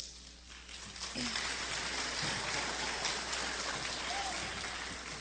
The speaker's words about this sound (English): Students, when I call your name, I'd ask you to come up to receive your award, and we'll applaud for each of them.